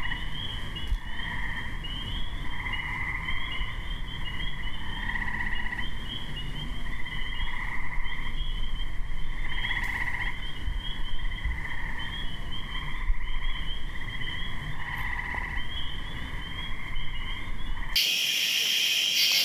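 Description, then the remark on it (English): A dense May evening chorus of many amorous frogs calling at once, overlapping trills and croaks pulsing steadily, continuous and unbroken, with no voices, ending abruptly in a burst of noise. “And now we'll hear the May evening chorus, which is almost entirely amorous frogs.”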